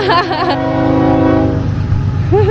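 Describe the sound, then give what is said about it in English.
A passing train sounds its horn in one long, loud, steady blare over the heavy rumble of rail cars, then the horn cuts off while the rumbling continues. “The funny thing is, they don't usually honk their horns.”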